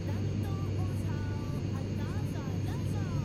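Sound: airplane flying sound effect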